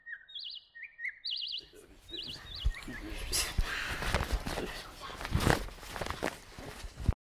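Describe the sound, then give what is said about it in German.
Bright, repeated morning bird chirps and trills ring out clearly near the start, then continue more faintly beneath a busy rustling, shuffling layer of noise and soft movement. “Das Einzige, was hier wie zu Hause war, waren die Vögel, die morgens den Tag begrüßten.”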